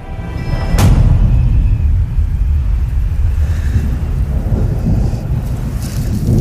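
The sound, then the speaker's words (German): Deep, rolling thunder rumbles continuously from a distance, with a sharper crack near the start, over a steady wash of rain and wind noise. The storm is near a farmhouse on Pawtuxet Road, near the town of Providence. No one speaks. “In der Ferne zieht ein Gewitter auf.”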